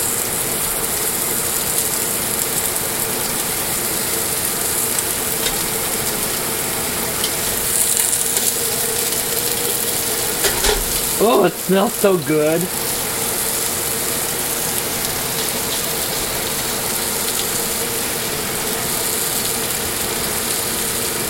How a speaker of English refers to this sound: So now the oil is hot. And with a pair of tongs, I'm going to put in the meat on rather high heat, and I'm not too concerned or worried about it being brown because that's the goal. Ooh, you get to hear the sizzle.